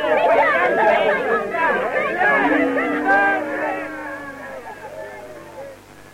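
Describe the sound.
A crowd murmurs outside, many overlapping voices blending into a steady, indistinct chatter that stays fairly loud before easing off slightly toward the end.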